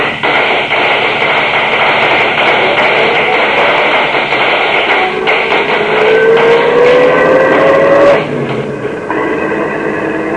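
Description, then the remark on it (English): A car engine roars and climbs steadily in pitch as it speeds away from an ambush, amid a dense clatter of loud, sharp cracks like gunfire, then breaks off abruptly near the end. “Step on it. We're in an ambush.”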